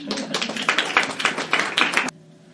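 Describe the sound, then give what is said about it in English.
An audience claps for a poet after a poetry reading, a dense, crackling patter of many hands with no voices, lasting about two seconds before stopping abruptly and leaving only a faint low hum. “Well, maybe I am used to music shows, but I feel like we need to do just a little more clapping for Laura Eve Engel.”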